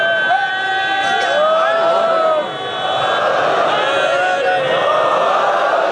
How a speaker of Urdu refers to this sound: یہ صرف اپنی زبان سے نعرے نہیں لگا رہے ہیں, یہ صرف اپنے گلے سے نعرے نہیں لگا رہے ہیں, یہ دل کی گہرائیوں سے امیر المومنین کی عزت اور احترام کے اندر شعار بلند کر رہے ہیں.